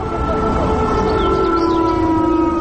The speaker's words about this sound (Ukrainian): Страйк проти кровопролиття та сепаратизму розпочався о півдні. На багатьох підприємствах міста пролунала сирена.